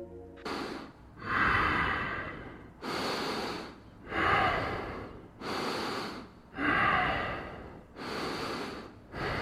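Slow, heavy breathing of a woman asleep, with about six long noisy breaths at a steady rhythm, some carrying a snorting, rasping edge. No talking.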